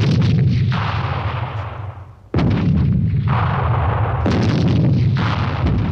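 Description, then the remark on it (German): Heavy cannon booms and gunfire roll out in dense, overlapping bursts, loud, with one sharp new blast cutting in after a brief dip and the barrage continuing without any voices. “Denn das Schießpulver war erfunden, Gewehre und Kanonen hatten Ritterausrüstung, Turniere und Zweikämpfe verdrängt.”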